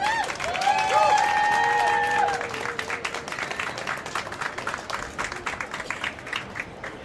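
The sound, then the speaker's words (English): An audience bursts into applause for invited experts, with some cheering and whistles at the start, then settles into steady, dense clapping that continues for several seconds at a moderate, even level. “Let's have a round of applause for our experts.”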